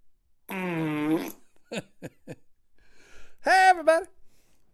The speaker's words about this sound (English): is he going to play the fart sound effect? You goddamn right I am.